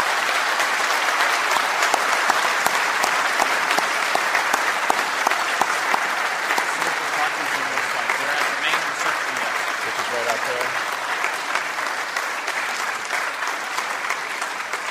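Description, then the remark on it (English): An audience applauds the participants steadily for around fifteen seconds, a dense, even wash of many hands clapping at once that holds the same loudness throughout without fading. “I want to take the opportunity to have the audience now applaud our participants for all their effort.”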